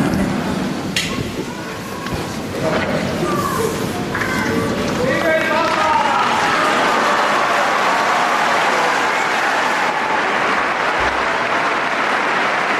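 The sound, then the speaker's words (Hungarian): A large crowd breaks into loud, sustained applause greeting the Holy Father at the close of the service, swelling within a few seconds into a dense, roaring wall of clapping, with scattered voices and cheers mixed in early on. “Kedves Mária Rádió hallgatók, a szokásos módon, a szokott módon hatalmas taps viharral zárul, köszöntik a Szentatyát is, és ha valaki esetleg még követi YouTube-on, az láthatja, hogy a jelenlévő méltóságok is köszöntik most a Szentatyát,”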